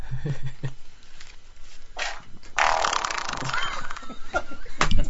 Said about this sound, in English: It was weird how different it sounded. Because now I had skin slapping against skin instead of hair slapping against hair. And so my farts are completely different sounding.